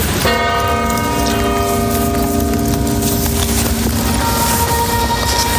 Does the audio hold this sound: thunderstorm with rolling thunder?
no